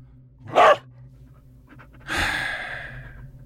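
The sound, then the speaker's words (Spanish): A short, sharp breathy burst, then a longer stretch of rough, airy huffing like a dog panting, with no voices. “Eres un perro. Un perro fantasma.”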